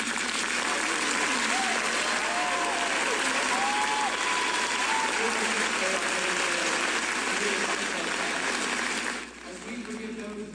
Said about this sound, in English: Yeah, we played you 20 seconds of that, Megan, but the cheers went on, right? You can hear him going on, and he kept trying to get through the prayer. And at one point, he said, look, I couldn't even hear myself talk. That's how loud the cheers were.